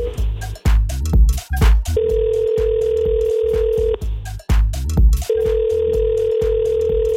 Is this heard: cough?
no